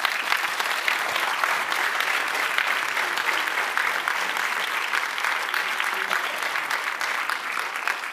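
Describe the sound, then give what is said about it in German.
Sustained applause from an audience, a dense steady patter of many hands clapping at even loudness throughout, with no voices standing out. “Da haben Sie jetzt in ein Wespennest gestoßen, aber hier auch viel Beifall gekriegt.”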